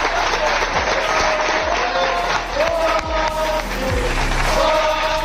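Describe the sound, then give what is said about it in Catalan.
Real Betis teammates in the locker room clap and cheer loudly and continuously as Joaquín enters after scoring three goals in a match, with scattered shouts and whoops rising over the sustained applause. “Sentim el moment en què Joaquín entra al vestidor i és ovacionat pels seus companys.”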